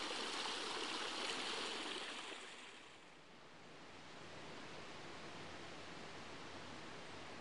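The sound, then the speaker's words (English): A steady rush of a woodland stream at Hackfall, flowing down towards a river, fills the whole recording, bright and hissy at first, then easing slightly softer and continuing evenly with no voices. “Let's follow this stream down towards the river and see what more follies may await us in the woods beyond.”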